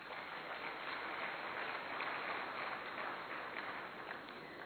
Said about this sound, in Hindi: ताली तो बजाओ।